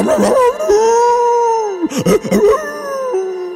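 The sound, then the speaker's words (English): A dog, Zeta, howls loudly into smoky air: a long, wavering, sustained cry that breaks briefly into a few choppy yelps before resuming as another drawn-out howl. No one speaks. “Zeta's heart began to pound, and his eyes filled with tears, and Zeta howled into the smoky, combustibly air.”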